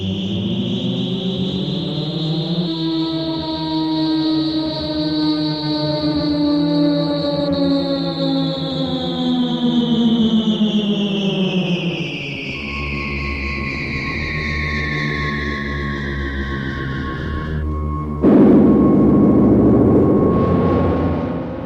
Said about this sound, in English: Listen here to the music that accompanies the scene of the human starship C-57D landing on the planet Altair 4.